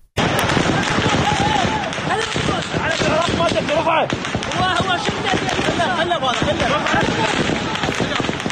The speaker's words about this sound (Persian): نیروهای امنیتی در نهایت با تیراندازی هوایی توانستند معترضان را وادار به عقب نشینی کنند.